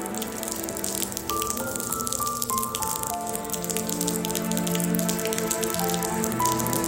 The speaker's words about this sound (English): Right now it's solemn because it just started raining and everybody is trying to stay dry.